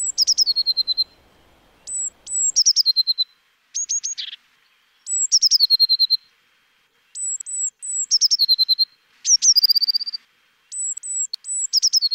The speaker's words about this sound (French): Et puis dans votre jardin, vous aurez sûrement aussi la possibilité d'entendre la mésange bleue. Alors la mésange bleue, elle fait aussi un joli chant, une espèce de petit hennissement comme ça, qu'elle répète souvent plusieurs fois.